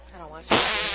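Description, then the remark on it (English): A voice makes a loud, buzzy raspberry imitating a fart. It bursts in abruptly and holds steady to the end, following a brief, softer hum. “are you going to do fart sounds?”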